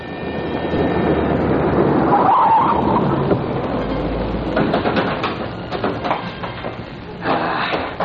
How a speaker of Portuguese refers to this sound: Voltou a entrar no carro. E vem para cá.